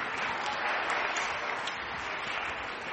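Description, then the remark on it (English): A church audience claps steadily throughout for two school year five volunteers, a dense, even wash of many hands applauding at a moderate level with no pauses or voices. “A little round of applause for our volunteers.”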